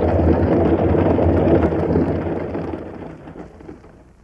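A heavy thunderstorm at night, with frequent flashes of lightning, roars with steady pouring rain and a deep, rumbling roll of thunder that slowly fades toward the end. No voices are present.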